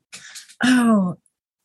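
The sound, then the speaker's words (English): A single loud cough or throat-clearing caused by pollen: a rough breathy burst followed by a short, strained voiced rasp, then silence. No speech. “I'm sorry, I'm coughing.”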